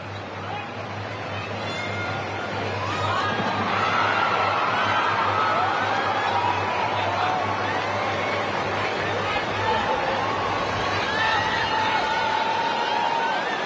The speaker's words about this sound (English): still out on track, including Ron Rundel of Cambodia. Being warmly applauded as well as she makes her way around the track.